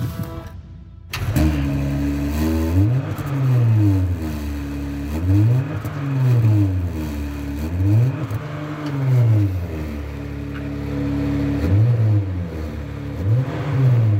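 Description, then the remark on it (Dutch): A car engine, with the car in neutral, catches and then revs repeatedly, its pitch swooping up and falling back in steady waves, about six blips in a row at a moderate level, with no talking. “Ik ga proberen er een geluidje uit te krijgen.”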